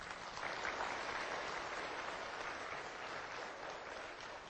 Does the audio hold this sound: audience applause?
yes